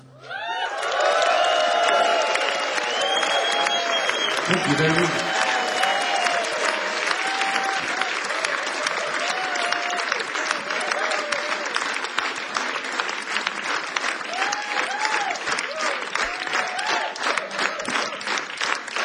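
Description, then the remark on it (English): A crowd applauds steadily for the whole stretch, dense clapping mixed with scattered cheers and whoops, loud and sustained without letting up. “Y'all clap in simultaneity.”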